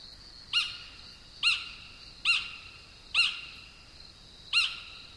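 A bird gives a series of five sharp, high chick calls, evenly spaced about a second apart, each a brief bright burst with a faint tail, over a soft background hiss.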